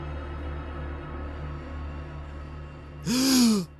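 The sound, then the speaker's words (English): A single sharp, voiced, desperate gasp for air bursts in near the end, loud, following several seconds of low, steady background hum. “You come too, desperately gasping for air, panting for it, as if no amount will ever properly fill your lungs again.”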